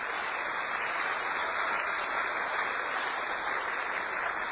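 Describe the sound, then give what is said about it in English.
A crowd applauds steadily, a dense, even wash of many hands clapping at a constant level with no voices and no letup across the whole few seconds. “Now, round of applause to the vegetables.”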